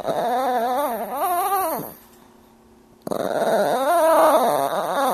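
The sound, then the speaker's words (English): A mixed-breed dog begging for attention, wanting to be petted, makes a drawn-out, warbling noise with a rasping quality like a tent or sleeping bag zipper. It does this twice, fairly loud, with a short silent pause between the two long bursts. “And she makes a lot of funny noises, as many pets do, but especially when she's begging for attention, specifically if she wants to be pet, she makes a sound that sounds nothing like a dog.”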